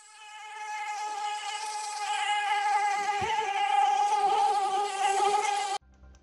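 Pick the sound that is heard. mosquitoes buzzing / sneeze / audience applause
mosquitoes buzzing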